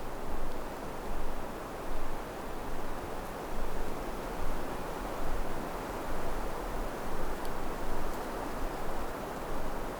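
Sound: wind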